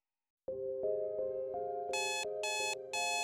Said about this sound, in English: Your alarm clock sirens. You hit the snooze button and catch the last few precious minutes of slumber before your waking life becomes unavoidable. It blares again and again.